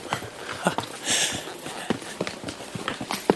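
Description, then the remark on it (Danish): Hooves clip-clop at a steady walking rhythm as a horse is ridden on a guided horseback tour, a series of sharp knocks repeating every half second or so, with a brief airy rustle partway through. “Der var ikke et sekund i tvivl, før jeg kommer til at føle, at det var bare det rigtige at sidde på en hesteryg her.”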